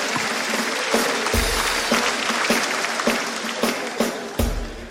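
A crowd applauds steadily, a dense wash of clapping that fills the whole clip, with a few sharper claps and low thumps punctuating the continuous roar of hands.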